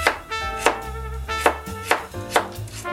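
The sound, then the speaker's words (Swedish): A knife chops carrot and yellow onion steadily on a cutting board, sharp taps landing in an even rhythm of roughly two per second over soft background music, with no one speaking. “Tillsammans med morot och gul lök som vi ska börja med. Så jag ska börja och hacka det.”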